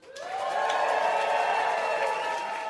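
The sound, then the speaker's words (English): A live crowd boos the Time Timer loudly together, a sustained, droning chorus of low voiced jeers that swells in quickly and holds steady for a few seconds before easing slightly. “I like the boos that the Time Timer is getting.”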